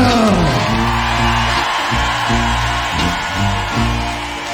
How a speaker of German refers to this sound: Meine Damen und Herren, diesen Applaus